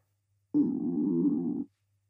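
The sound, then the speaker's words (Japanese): A hungry stomach growls once, a low, gurgling rumble that starts abruptly, holds steady for about a second, then cuts off, with no talking around it. “今のって、あなたのお腹が鳴った音？”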